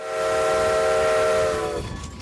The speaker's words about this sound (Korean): 스트레스버그 역의 관리자인 스티브 베럴 씨는 나무로 만든 객실이 달린 증기기관차들이 현재 운행되고 있다며 45분간 추억의 시골 기차 여행을 할 수 있다고 설명했습니다.